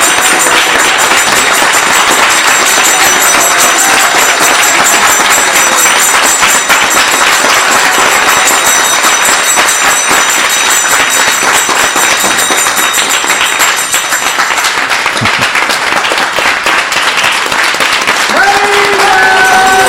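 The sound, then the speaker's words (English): A large audience applauds loudly and steadily, a dense wash of many hands clapping at once that holds for about twenty seconds before thinning slightly at the end. “And in your applause is also a request for them to come back as soon as possible and stay as long as possible.”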